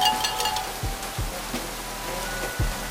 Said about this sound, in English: We got car parades of fans banging the pots and pans. Oh, it's so good.